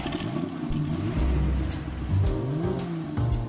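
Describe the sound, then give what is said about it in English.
A vintage car engine revs, its low rumbling pitch climbing and dipping through several throttle surges over a few seconds, with no voices; the car is Jerry Seinfeld's vintage car from his web series Comedians in Cars Getting Coffee. “The comic tootles around in his vintage wheels and drinks Java with his pals Alec Baldwin, Michael Richards, Larry David.”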